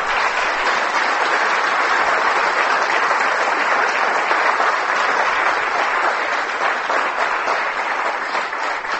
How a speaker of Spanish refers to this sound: Yo les aseguro que en esta casa nunca le han dado un aplauso a Abraham. Denle un aplauso a Abraham.